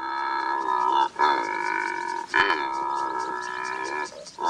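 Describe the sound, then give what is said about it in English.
A secretary bird, a bird of prey, gives loud, buzzy croaking calls, drawn out into three or four long rasping phrases with brief breaks between them, heard alone without any talking. “Meet the secretary bird, a bird of prey like no other on Earth.”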